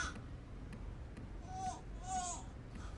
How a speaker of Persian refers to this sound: صبر کن عزیزم، صبر کن عزیزم، گریه نکن. الان لباساتو عوض میکنم، بعد برات یه قصه خوشگل میگم، باشه؟ گریه نکن دیگه، برات قصه میخوام بگم.